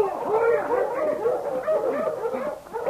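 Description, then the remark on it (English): A pack of dogs barks and yips excitedly all at once, high yelps and whines overlapping in a constant, loud chorus with no pauses. “Halt your dogs”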